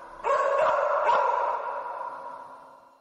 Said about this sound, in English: I watched videos of the cadaver dogs in action, searching the McCanns' holiday apartment and the rental car they had hired. The dogs were barking. They seemed to be alerting to something.